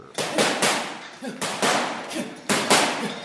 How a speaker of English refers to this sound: A sweating boxer punches a bag inside the top box gym in northern Johannesburg.